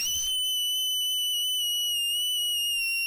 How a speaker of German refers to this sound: Wir machen einen Test. Aber halt bitte dir die Ohren zu, weil ich schrei sehr laut.